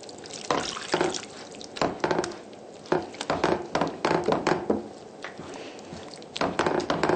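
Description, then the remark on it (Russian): Water splashes and trickles into a pot of thick sauce made with ground cashew nuts, in uneven bursts, moderately loud, with wet sloshing between pours and no voices. “Добавляем больше воды в соус, так, чтобы соус получился не очень густой.”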